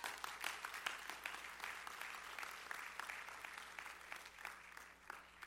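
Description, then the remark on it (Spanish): An audience at a church sermon applauds the Lord steadily for several seconds, a dense wash of many hands clapping with no voices standing out, fairly faint overall. “¿Cuánto le dan un aplauso, Señor?”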